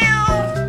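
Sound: cat meowing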